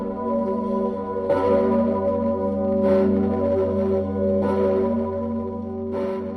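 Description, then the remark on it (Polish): Church bells ring with steady, evenly spaced strokes about every second and a half, each new strike blooming over a dense, lingering hum of overlapping tones. No voices are heard. “Jak byłem bardzo mały, miałem tam parę lat chyba, to mnie czasami zabierano właśnie dzwony.”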